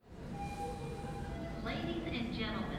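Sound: subway train at station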